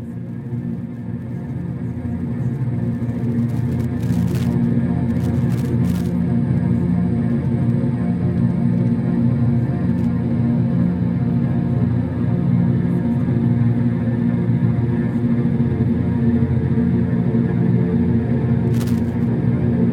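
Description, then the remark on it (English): A recording of a cosmic hum: a steady, loud, low droning rumble with layered tonal bands that never lets up, broken only by a few brief crackling clicks. No one speaks. “Cosmic hum that, as you say, started the whole thing with the humming effect.”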